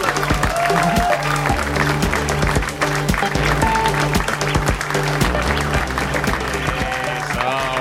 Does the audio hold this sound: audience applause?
yes